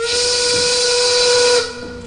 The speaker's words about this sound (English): A factory siren sounds.